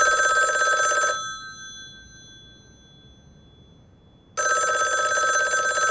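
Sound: telephone bell ringing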